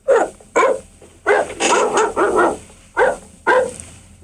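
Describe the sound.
A man imitates a barking dog into a microphone with a series of about nine loud, sharp barks, spaced unevenly, several running together in a quick burst midway. No other voices.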